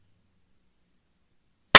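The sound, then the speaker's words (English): Near-silence, then one loud, sharp clap right at the end, a single crisp burst that sounds like two people's hands striking together at the same instant. “Hey, at 30 seconds, can we both clap, please?”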